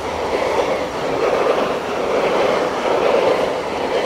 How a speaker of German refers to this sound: Ich weiss jetzt nicht recht, ob man es hört mit dem Zug, der gerade vorbeifährt.